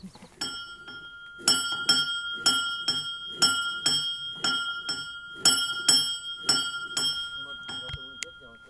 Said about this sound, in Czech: Tak jsme slyšeli, jak zvoní zvoneček. Chtěl byste nám ještě něco říct k tomu zvonečku? Kdo ho třeba vyráběl nebo odkud je?